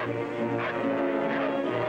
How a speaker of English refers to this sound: From a gate in the stone wall, the Mastiffs pour out with Ivan and Ahmed. Hearing the dogs, Eve and Rainsford hurry on.